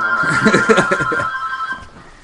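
A home phone rings with a steady electronic tone that holds for about two seconds before cutting off, while people talk over it at the start.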